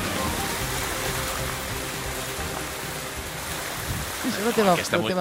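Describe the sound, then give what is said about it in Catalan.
Heavy rushing water roars steadily, a dense, constant torrent like a strong stream or waterfall. A voice briefly rises over it near the end. “Aquesta aigua d'ara, no, aquesta és exagerada.”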